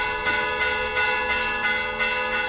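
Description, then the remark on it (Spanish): Recorded church bells from Urueña ring an alarm toll, loud, with strikes coming roughly every two-thirds of a second over a dense, sustained metallic hum. No voices are heard. “Las campanas que suenan son grabaciones de la Fundación Joaquín Díaz en Urueña.”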